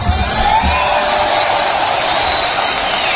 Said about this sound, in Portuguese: Aplauso e vai? Você quer? Eu quero aplauso. Você quer aplauso? Sim. Então vou soltar o aplauso.